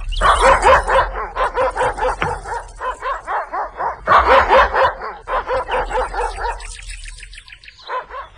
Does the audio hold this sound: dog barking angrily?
yes